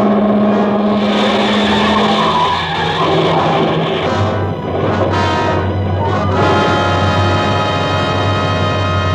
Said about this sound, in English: Well, I had a premonition then. In my ears was the screeching of brakes, of tires taking a wild curve. Before my eyes was her foot on the gas pedal, pressing it down.